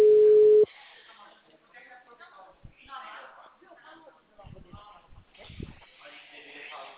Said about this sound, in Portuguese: Caiu a linha? Oi. O senhor desligou o telefone. O senhor desligou. Ou caiu a linha? Não, vocês estavam falando. Ah, caiu a linha ou o senhor desligou? Não, caiu a linha.